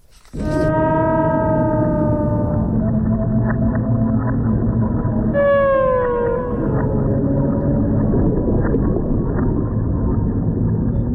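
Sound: beluga whale vocalizations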